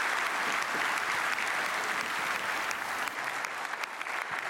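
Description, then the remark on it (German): Sustained applause from a hall audience at the end of a presentation, a dense, steady wash of many hands clapping at once with no pauses and no voices, holding an even loudness for several seconds. “Applaus aus dem Saal.”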